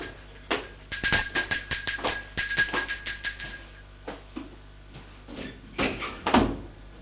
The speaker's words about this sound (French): Et un soir, qui sont au salon, on a sonné à la porte.